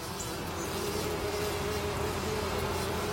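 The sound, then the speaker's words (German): A steady, continuous drone of bees and bumblebees buzzing, a low hum that holds for the whole stretch at moderate volume with no voices present. “Auch Bienen und Hummeln sind soziale Wesen.”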